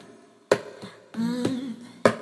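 A slow, sparse round of applause: a few sharp, separate handclaps spaced unevenly apart, with a short wavering tonal sound in between, rather than a crowd's continuous clapping.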